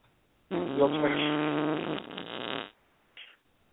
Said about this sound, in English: While you're doing that, I'll play a fart noise.